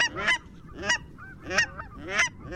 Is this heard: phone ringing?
no